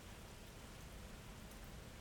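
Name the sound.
rain falling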